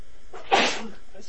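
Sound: sneeze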